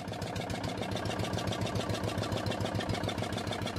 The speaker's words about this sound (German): Mit gleichmäßigen Tuckern gleitet der kleine Kutter durch den Fluss, vorbei an strohgedeckten Lehmhütten.